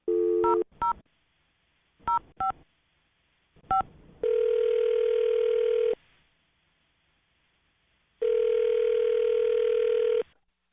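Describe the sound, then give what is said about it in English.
A string of short, crisp touch-tone beeps as a phone number is dialed for a call from the radio show Brooke and Jubal in the Morning, followed by two long steady ringback tones separated by a pause, heard clearly over a phone line with no one talking. “I'm going to dial the phone number right now.”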